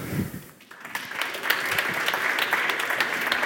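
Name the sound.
audience applause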